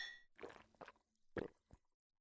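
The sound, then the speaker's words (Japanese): Glasses clink together in a toast at a beach house, opening with a bright, ringing tone that fades quickly, followed by a few softer knocks and clatters, all fairly faint with no talking. “じゃあ、乾杯しましょう。”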